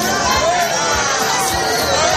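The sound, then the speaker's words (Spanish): A dense crowd shouts and chatters all at once as Spanish Prime Minister Pedro Sánchez makes a surprise appearance at Madrid Fashion Week for an Aníbal Laguna show, a loud, steady wall of overlapping voices with no pauses over its couple of seconds. “Estos son los gritos que ha escuchado el presidente cuando ha aparecido por sorpresa para ver un desfile de Aníbal Laguna junto a su mujer Begoña Gómez.”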